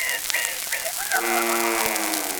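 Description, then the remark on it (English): A little pig squeals: a few short high chirps, then a long, steady, nasal squeal that holds for over a second, loud, with no other sounds around it. “And last but not least, the little pig.”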